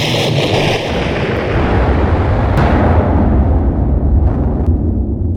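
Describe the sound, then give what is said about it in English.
A loud, sustained explosion rumble with heavy low-end roar and crackling debris, fading slowly with a few sharp pops scattered through the tail. No voices. “Explosion sound effect, please.”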